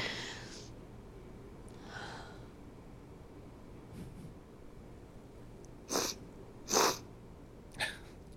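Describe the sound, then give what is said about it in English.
A few short, wet sniffles, three sharp ones bunched near the end after fainter breathy snuffles, with no talking. “It was a wet sniffle.”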